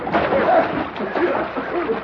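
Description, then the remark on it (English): Steady splashing of water in a trough, with sloshing and splattering that continues for about two seconds. A faint voice can be heard underneath. “Maybe we ought to let him see the owner if he takes a bath first.”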